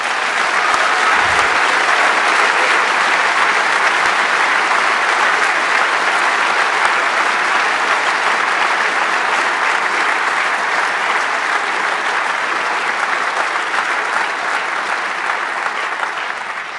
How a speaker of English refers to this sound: And so please a huge round of applause for the Orga team who made this whole thing happen even weeks before.